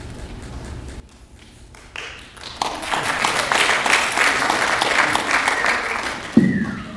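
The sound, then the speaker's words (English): Audience applause swells from a low murmur into steady, dense clapping that holds for several seconds, a broad crackling wash of many hands with no voices over it. “You're expecting a lot, that applause.”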